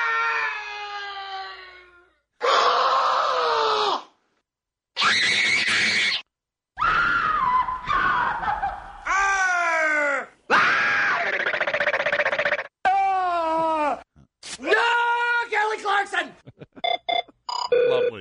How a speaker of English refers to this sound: I like noise. Don't you? I do. Is it noise fun? I like the screaming more than anything. Noise is great. How do you not like that?